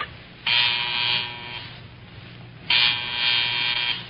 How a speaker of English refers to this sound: You gonna buzz the phone? Yeah, right now. I hope it works.